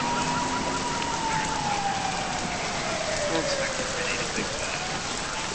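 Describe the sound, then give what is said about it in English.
Steady, dense rain pours onto street pavement in a constant hiss, with a faint tone sliding slowly downward in the background. “Flashing lights from a cruiser left behind strobe in the rain.”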